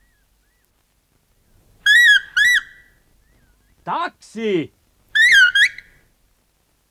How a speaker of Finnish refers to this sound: Taksi! Heti korttelin takaa juoksi pieni viheltävä mies.